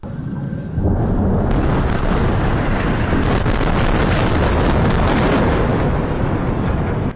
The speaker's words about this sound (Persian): صداهایی که در نوار غزه متوقف نمی شود، بمباران و انفجار.